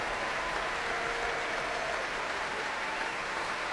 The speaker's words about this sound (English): More applause before the traditional finale, which is not led by anybody on the platform, of course. Well, all of the players of this orchestra already on their feet for the national anthem and absolutely soaking up the vast applause of a packed